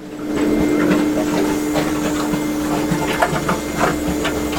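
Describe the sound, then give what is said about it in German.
A small pump bubbles and gurgles inside a running corrugated cardboard machine in a factory making cardboard from recycled paper. Irregular soft pops sit over a steady mechanical hum with a constant low drone, moderately loud throughout with no voices. “Wir können reinschauen und irgendetwas blubbert hier komisch.”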